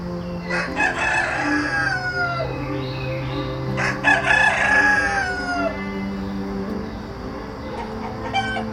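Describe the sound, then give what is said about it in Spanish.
Hens cluck steadily while roosters crow twice, once near the start and again around the middle, over a busy farmyard backdrop with a low steady hum underneath. “Visualiza que se acercan a ti varias gallinas mirando el suelo en busca de cualquier cosa que les resulte nutritiva.”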